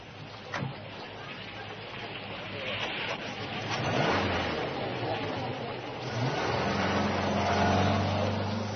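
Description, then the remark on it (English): A car engine rumbles and pulls off, a steady low drone with rushing, wind-like noise that swells as the vehicle gets moving. “Pile into the car, everybody. We've got to get back to my office.”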